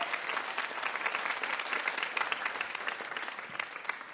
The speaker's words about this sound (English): Big round of applause for our VIP, Julie Klausner, everybody.